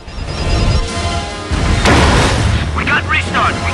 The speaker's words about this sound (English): The stricken jet nosedives towards the ground. Its engines restart.